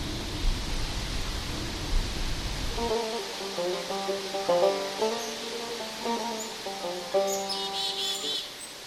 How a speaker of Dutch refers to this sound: Het gaat nu lekker waaien. Ja, de wind hoort ons.